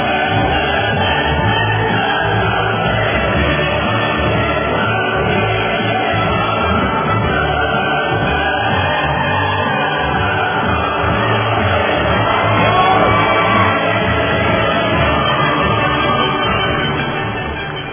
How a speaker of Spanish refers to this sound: Van en los aplausos para la diáspora.